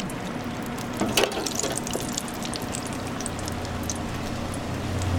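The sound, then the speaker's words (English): Steady, crackling sizzle of a square of dough frying in hot oil in a deep fryer in a small kitchen, with a brief louder splash and burst of pops early on, then continuous fine spitting and hissing throughout. “She drops one of the squares of dough into the hot oil. And it's going to start to sizzle.”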